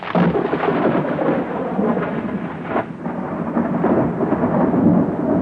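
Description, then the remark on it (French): A thunderstorm at sea at night roars steadily with deep, continuous rumbling thunder and a dense wash of rain, loud, swelling and easing slightly throughout with no voices. “Et quand la nuit tomba, la tempête se leva.”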